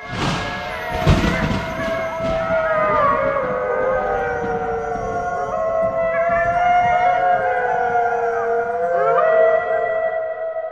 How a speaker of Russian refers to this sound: Из прибрежья гайавата испустил такой ужасный крик отчаяния, что волки на лугах завыли в страхе